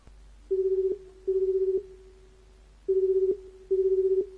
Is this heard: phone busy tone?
yes